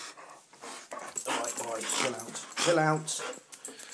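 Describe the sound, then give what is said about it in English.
A dog whines to be let out for a walk in a run of high, insistent yelps and whimpers, with a sharper bark-like cry near the end, fairly loud. “The dog is staring at me. I'm guessing you want to go out, don't you?”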